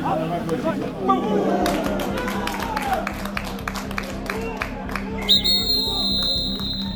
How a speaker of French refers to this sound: Les images sont terrifiantes. Le son aussi. Au moment du choc, on entend le public applaudir et crier. D'admiration pour certains, de stupeur pour d'autres, tant la charge a été violente, juste avant que l'arbitre ne siffle l'arrêt de jeu.